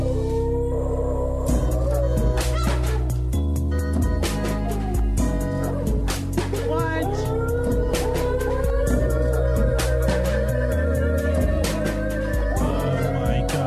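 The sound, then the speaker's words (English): A song built from dog sounds: pitched yelps and sliding, howl-like tones carry a melody over a steady, loud bass and rhythmic backing, with sharp bark-like hits throughout and no voices. “Sounds like dogs. It says a song made by dogs.”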